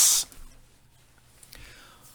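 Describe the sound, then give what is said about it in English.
A sharp, loud hiss bursts out for a fraction of a second, then drops away to quiet background noise, with a fainter, breathy hiss rising briefly later on. The hissing is at the name Haman, during a Feast of Purim reading of the Book of Esther. “Whenever I say the name Haman or you hear the name Haman, you hiss.”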